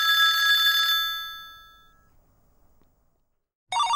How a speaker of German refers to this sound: Das Klingeln des Telefons weist uns etwa darauf hin, dass jemand anruft.